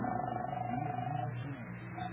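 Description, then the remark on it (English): A telephone line ringing on the other end as a call is put through to a police station: a steady electronic tone holds for over a second, breaks off, then starts again, heard faintly over a muffled, hissy background. “I'm ringing.”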